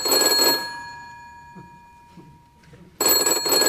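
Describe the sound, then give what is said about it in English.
The Bat Phone at Wayne Manor, the line Commissioner Gordon calls on, rings loudly, two jangling bursts separated by a pause of a few seconds, with no one speaking. “The Bat Phone is only to be answered by me.”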